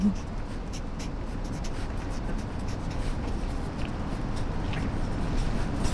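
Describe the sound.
A pen scratches steadily across a book page as an author signs an autograph, with continuous quick strokes for several seconds while murmuring voices linger faintly in the background.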